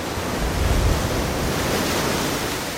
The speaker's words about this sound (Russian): И тут море зашумело, волны поднялись за кормой, а поплавки на сетях так и заплясали.